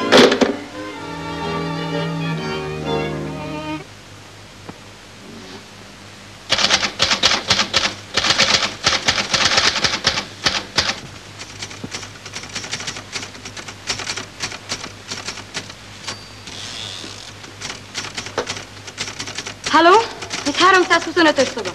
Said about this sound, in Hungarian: Kérem, ez mégiscsak hallatlan, hogy a mellettem lévő szobából állandóan írógépkopogás hallatszik.